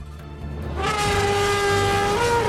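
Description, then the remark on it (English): A heavy truck engine rumbles low, then swells into a loud roar with a droning whine as the enormous truck pulls up in front of a hotel entrance. No voices are heard. “An enormous truck stands parked in front of the hotel's entrance.”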